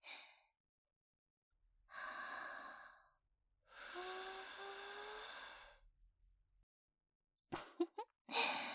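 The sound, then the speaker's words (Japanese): Soft, breathy exhalations with no talking: a brief puff, then a longer sigh, then a drawn-out sigh carrying a faint voiced tone, ending with a few quick, short breaths. “あなたもだいぶ抵抗力を鍛えたとはいえ、まだまだ私の陰気を込めた吐息には抗えないようですね。”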